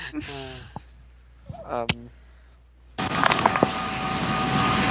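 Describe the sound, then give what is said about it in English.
A vacuum cleaner switches on abruptly partway through and runs with a loud, steady whirring roar to the end, following a few brief vocal sounds at the start. “Oh, sorry, I had to vacuum.”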